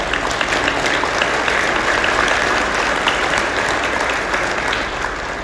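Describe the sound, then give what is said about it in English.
Sustained audience applause fills the whole stretch, a dense steady patter of many hands clapping at an even loudness, tapering only slightly at the very end. “And so you should applaud right now for that.”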